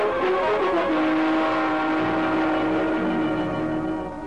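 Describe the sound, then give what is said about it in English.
A 1941 Buick sedan's engine roars loudly and steadily for a few seconds as the driver puts on the gas, turning into the hills near North Hollywood, its droning pitch shifting as it picks up speed, with a broad rushing noise underneath and no voices. “But he turned to the hills and put on the gas.”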